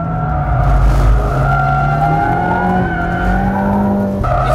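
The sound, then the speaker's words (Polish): A car engine roars steadily at high speed on the longest straight, about 400 metres, of a driving technique training track in central Poland, accelerating towards nearly 200 km/h; its pitch holds then rises and shifts with gear changes, loud, with faint tire noise underneath and no voices. “Teraz jesteśmy na najdłuższej prostej, około 400 metrów. Możemy się rozpędzić do prawie 200 na godzinę.”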